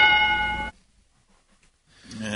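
A single bright bell ding rings out clearly and briefly, its tone cutting off after a moment into near silence before another faint sound rises at the end.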